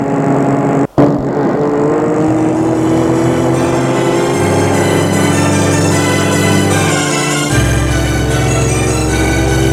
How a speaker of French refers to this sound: La voiture file. Il est difficile de voir où elle va parce qu'il fait nuit.